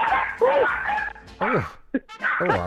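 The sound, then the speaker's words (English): A dog lets out a series of high, wavering whimpers and yips, with a few short barks mixed in, in several uneven bursts separated by brief pauses. “Oh, there's a dog arrived.”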